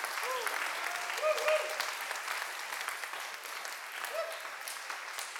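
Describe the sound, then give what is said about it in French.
An audience at a Christian service applauds steadily as an acclamation to the Lord, a dense wash of clapping that holds at an even level throughout, with a few faint voices calling out underneath. “Est-ce qu'on peut donner une petite acclamation à notre Seigneur pour son amour pour nous?”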